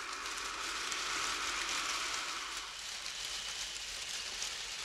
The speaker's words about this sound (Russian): Бенгальские огни вспыхнули, засверкали и стали сыпать во все стороны огненными брызгами. Это был фейерверк. Нет, какой там фейерверк? Северное сияние, извержение вулкана. Вся елка сияла и сыпала вокруг серебром.